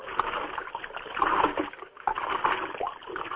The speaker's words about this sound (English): In another part of the camp, which refugees call Peace Town, girls pump water to use for cooking.